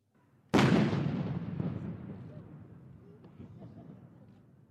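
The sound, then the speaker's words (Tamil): A single heavy artillery boom from a ceremonial gun salute fired in London for the Queen's birthday, loud and sudden, followed by a long rolling echo that slowly fades, with faint crowd murmur beneath. “மகாராணியரின் பிறந்தநாள் வைபவத்தின் ஒரு பகுதியாக லண்டனில் துப்பாக்கி வெட்டுகள் தீர்க்கப்பட்டு மரியாதை செலுத்தப்பட்டது.”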